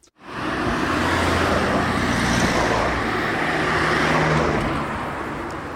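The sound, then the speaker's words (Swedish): Steady, dense traffic noise with a low humming rumble of buses on a square in Malmö, continuous and fairly loud throughout, fading in at the start with no voices. “Kan inspelat fågelkvitter dölja buller från brummande bussar?”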